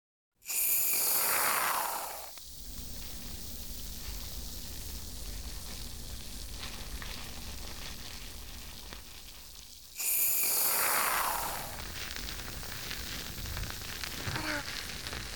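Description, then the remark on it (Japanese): Two loud hissing sprays of shampoo foam dispensed for a hair wash, each settling into a steady, fine fizzing with soft crackles and pops that continues throughout as the foam bubbles and bursts. “シュワー、パチパチって音するでしょ。”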